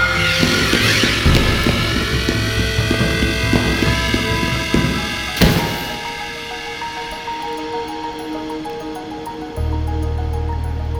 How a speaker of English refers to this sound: Another drone!